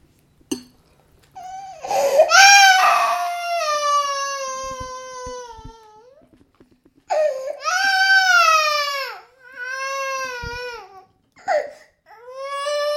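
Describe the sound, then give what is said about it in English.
A baby boy wails in loud, high-pitched bursts after headbutting his high chair, each cry rising and then falling off, with brief gasping pauses between the sobs for about thirteen seconds. “Why have you just headbutted your high chair?”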